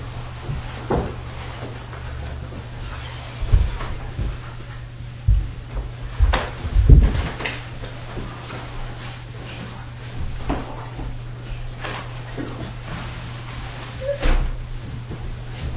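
A door is pushed shut with a cluster of wooden clunks and a firm thud midway through, followed by quieter shuffling against a steady low hum.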